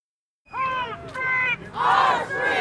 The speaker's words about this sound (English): Hundreds of people braved freezing rain outside the Illinois State Capitol yesterday for a midweek rally against President Donald Trump's administration.